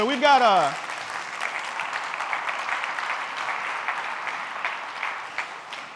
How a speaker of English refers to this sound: Round of applause.